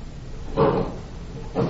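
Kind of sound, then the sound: household object, door being opened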